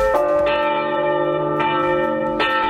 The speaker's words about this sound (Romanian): Când bat clopote la înmormântare la Vaslui, patronii firmelor de servicii funerare și mai nou de catering își freacă mâinile de bucurie.